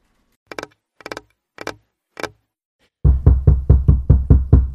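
Four evenly spaced, crisp knocks on a door, a brief pause, then a louder, rapid flurry of heavy pounding, about seven hits, with no voices.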